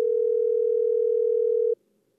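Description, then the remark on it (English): A steady, loud telephone dial tone hums continuously for nearly two seconds as someone picks up the phone to make a call, then cuts off abruptly, leaving faint background quiet. “It's been a few years since I spoke with Oscar and Martha, so I picked up the phone.”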